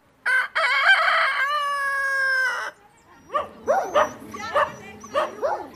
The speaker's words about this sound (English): Roosters and stray dogs vie for territory on the streets of Vulindlela, a poor community near Pietermaritzburg.